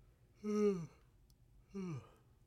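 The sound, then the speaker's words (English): A person yawns: a drawn-out, voiced exhale that slides downward in pitch, followed after a short pause by a second, briefer yawning groan. No talking. “That was a really good yawn.”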